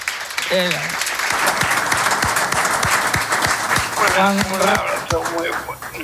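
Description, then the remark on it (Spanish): A live audience of listeners present in the studio breaks into steady, dense applause, many hands clapping loud throughout, with scattered voices calling and cheering over the clapping. “te mandan un aplauso los oyentes que nos acompañan hoy aquí.”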